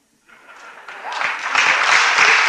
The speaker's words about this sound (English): I appreciate those claps because I studied for about 20 hours for this sermon, and I studied for that about 17 of those 20.